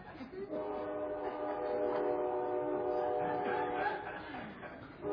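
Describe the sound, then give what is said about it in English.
A train horn blares in one long, sustained multi-tone blast from a passing train, lasting several seconds before fading as the train rumbles by. “Some of those drivers, they love that horn.”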